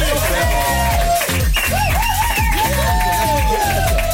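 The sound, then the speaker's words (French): The audience of Camille Combal's show on Énergie applauds a guest loudly and steadily for several seconds, with whoops and cheers rising above the dense clapping and a rhythmic low beat underneath. “On applaudit ….”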